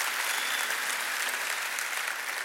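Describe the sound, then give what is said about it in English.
An audience claps their hands to give God praise, in sustained, dense applause that fills the space evenly for a few seconds, with no single voice standing out. “Come on, if you believe that, clap your hands and give God praise.”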